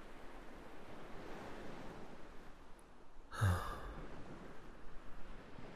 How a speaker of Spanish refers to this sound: ¿Escuchas eso? En mi mundo también existe eso tan maravilloso que es el mar. Y es precioso.